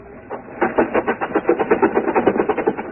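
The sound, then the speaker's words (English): A car engine, started with the choke pulled out, revs as the gas is stepped on, with a rapid, steady chugging pulse that builds slightly in strength over a few seconds, its sound muffled and midrange-heavy with no voices. “Step on the gas.”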